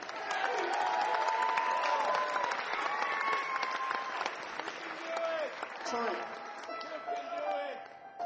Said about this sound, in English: So let's have a great round of applause on piano,